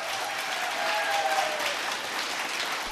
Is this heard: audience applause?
yes